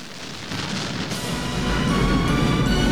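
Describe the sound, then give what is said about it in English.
A news van explodes after a falling man crashes through it: dense crackling noise swells into a loud, deep rumbling blast about halfway through, then keeps roaring steadily to the end, with no voices. “He smashes through an action news van, which blows.”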